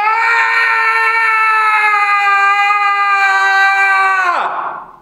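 A single long, loud scream held at a steady high pitch for about four seconds, then sliding downward and trailing off into a breathy fade. No other voices or sounds.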